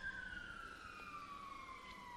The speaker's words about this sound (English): And yet, Lord, as we hear the sirens sounding outside this building, we can surely see that you are sounding an alarm bell to perhaps some here this evening, to those who may hear later on.